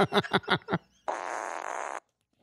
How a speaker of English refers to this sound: Why are you laughing and farting?